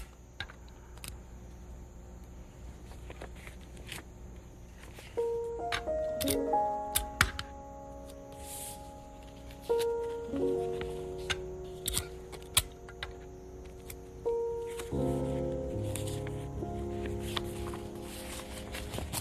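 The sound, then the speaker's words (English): Adhesive tape is pulled and pressed down onto the ends of a piece of paper, with three squeaky, stretching rips a few seconds apart among soft crinkles and small clicks, and no talking. “Put some tape on here.”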